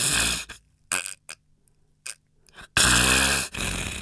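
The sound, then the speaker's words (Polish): A person imitates snoring with the nose pinched shut, snoring through the palate and throat. Harsh, rasping breaths start as short snorts, then become two longer, louder rattling snores. No one speaks. “I chrapiemy podniebieniem, czyli gardłem, czyli ja teraz demonstruję, zatykam sobie nos i chrapię.”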